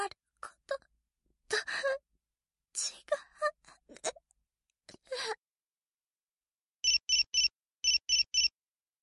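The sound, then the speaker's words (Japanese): After a few breathy gasps and sighs, a mobile phone sounds an alert for a newly arrived email: two quick bursts of three bright, evenly spaced electronic beeps, clear. “携帯に新しい未来メールが来た。”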